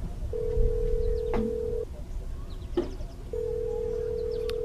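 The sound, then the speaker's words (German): A phone line rings out: a steady, mid-pitched tone sounds for about a second and a half, pauses, then starts again, with faint clicks and low background rumble in between. “Ja, ich guck mal, ob er rangeht, wa?”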